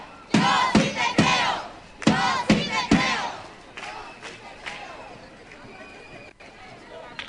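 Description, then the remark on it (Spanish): A crowd chants slogans for equality and freedom in loud, rhythmic bursts for about three seconds, the shouts rising and falling together, then fading into a lower murmur of voices and scattered calls. “seguimos retomando esos gritos por la igualdad y la libertad.”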